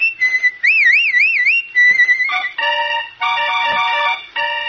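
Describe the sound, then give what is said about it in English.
A person whistles a short tune, the pitch wobbling in a bright trill before steadier held notes, followed by fuller, chord-like tones; nobody speaks. “I'll be whistling, so keep listening, will you, friends?”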